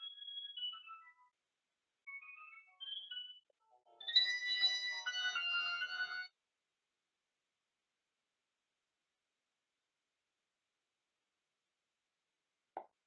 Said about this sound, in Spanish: Disculpad un momento que me ha sonado el móvil.